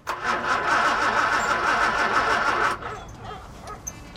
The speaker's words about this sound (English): He gets more and more frustrated as the engine refuses to turn over.